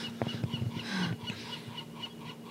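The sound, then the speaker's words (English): A pet bird lets out a quick burst of harsh, raspy squawks in the first second, then goes quieter, with a steady low electrical hum running underneath in an indoor room. “The bird thinks it's hilarious.”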